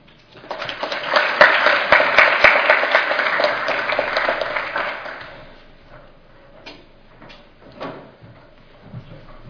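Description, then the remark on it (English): An audience applauds researchers after a public health research presentation, a dense wash of clapping that swells quickly, holds for a few seconds, then thins out to a handful of scattered claps before fading away. “First off, I'd like to give another rousing round of applause for all of our great researchers here.”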